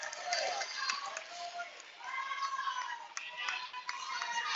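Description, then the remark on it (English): The Raiders' crowd roars steadily at a basketball game, with scattered sharp claps and high sneaker-like squeaks cutting through the dense, fairly loud cheering for several seconds, during the third quarter of an Elite Eight game between the Warriors and the Raiders on a Saturday morning. “It's the Raider crowd making the noise.”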